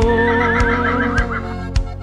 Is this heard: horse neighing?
yes